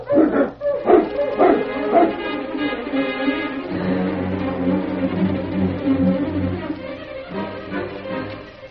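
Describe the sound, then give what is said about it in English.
Several sled dogs, being got up to start a journey, bark and yip excitedly in quick, overlapping bursts for a couple of seconds, then a steady sustained droning tone takes over while the yapping fades. “Get the dogs up, King.”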